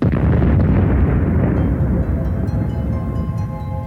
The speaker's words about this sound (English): When we have big stars, they don't live very long. Relatively only maybe a few million years, up to 40 million years. But they end their life in a huge explosion, which we call the supernova.